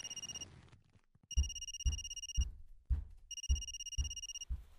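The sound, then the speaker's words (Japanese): A man's mobile phone rings with a bright electronic tone in repeated bursts, each pattern of pulses punctuated by soft low thumps, clear with no talking; the call is from his manager. “あ、ごめん、今度は俺の携帯だわ。”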